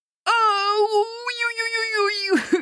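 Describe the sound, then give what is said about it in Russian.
A voice acts out Baba Yaga's pained yell as she sits down on a red-hot shovel of pies: one loud, high, sustained cry lasting about two seconds, wavering slightly before breaking off in a short downward gasp. “Яга, как услышала эти обидные слова, так и села на раскаленную лопату с пирогами. И как заорет!”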